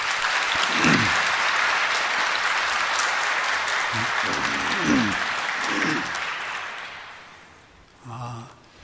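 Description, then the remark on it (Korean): A church audience applauds to welcome the deacons elected as elders as they stand, a steady, dense wash of clapping for about seven seconds, with murmuring voices underneath, before it tapers off and a brief voice comes in at the end. “우리 박수로 맞아주십시오.”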